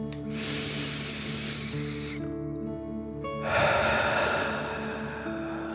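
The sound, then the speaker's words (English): A deep breath drawn in through the nose, a brief pause, then a louder, forceful exhale through the mouth as if breathing fire during a breathing exercise, clear over a soft, steady musical drone. “Again, breathe in through your nose and out through your mouth, pretending you are breathing fire.”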